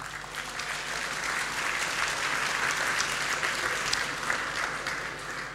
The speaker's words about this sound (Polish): Ale zanim do tego dojdziemy, poznajmy skład komisji sędziowskich i podziękujmy im gorącymi brawami za ogrom pracy włożony w wyłonienie naszych finalistów.